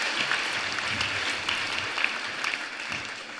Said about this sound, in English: Good work, everyone. Give yourselves a little round of applause.